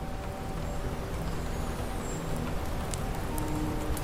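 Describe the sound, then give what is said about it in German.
Sleet patters steadily on the glass roof of a library, a dense continuous crackle of small impacts at an even, moderate level, with a faint sustained hum underneath. “Draußen prasselte der Schneeregen weiter auf das Glasdach der Bibliothek.”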